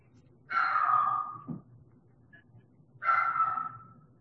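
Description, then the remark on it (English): A puppy lets out two drawn-out whimpering cries, each about a second long, separated by a short pause, clear over a low background hum. “My puppy seems to be concerned.”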